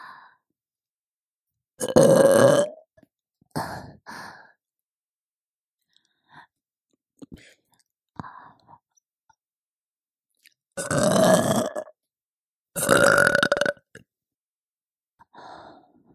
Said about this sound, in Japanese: どう？久しぶりのママゲップ、嬉しい？